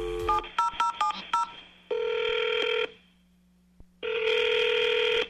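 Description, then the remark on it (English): A quick run of about seven touch-tone beeps as a number is dialed to call a man, then two long, steady ringing tones separated by a silent pause, clear with no voices. “Well, let's just jump right into it and give him a call and see what's going on.”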